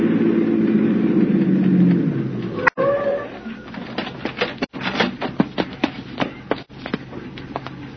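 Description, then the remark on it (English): A police squad car's engine rumbles and slows as it pulls up, then cuts off, followed by a series of sharp clicks and light mechanical taps. “Back behind that squad car pulling up.”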